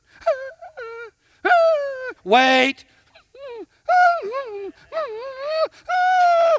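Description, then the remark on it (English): A person's voice imitates a bird dog in training whining after being told to wait, giving a string of high, wavering whimpers that bend up and down in pitch, broken by a single short spoken word. “That dog's whining.”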